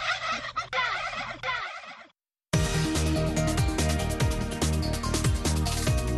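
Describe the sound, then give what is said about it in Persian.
A turkey gobbles in a loud, warbling burst over a low hum, then falls silent; after a short pause, dense music starts up and continues. “قابل یادآوری است که بعد از اولین جشن شکرگزاری در سال 1621 در ایالات متحده، رؤسای جمهور این کشور علاوه بر اعلام روز شکرگزاری، یک فیلم‌مرغ را از کشتن عفا می‌کنند.”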